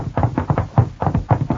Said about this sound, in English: Knocking won't help this time.